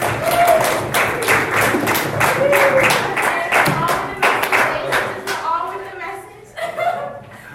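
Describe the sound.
A round of applause from a group: dense, steady clapping for several seconds with a few voices calling out over it, thinning and fading toward the end.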